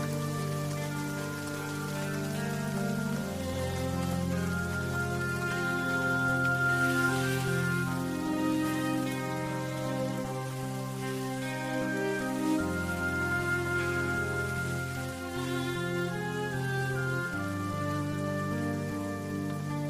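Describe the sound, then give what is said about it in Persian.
Steady heavy rain hisses continuously in a half-dark cemetery, soaking a grave, underneath sustained, mournful music with held chords, the downpour forming a constant wash behind the melody for the whole stretch. “بارون شدید میباره و قبر عماد از بارون خیس میشه.”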